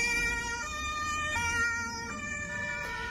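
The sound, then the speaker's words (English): Loud sirens of police vehicles and ambulances rushing through the streets of Mannheim, Germany, after a car was driven into a crowd, their piercing tones stepping between pitches in a steady alternating pattern, layered over a low rumble of city traffic. No one speaks. “Videos posted on social media showed police vehicles and ambulances rushing through the city streets.”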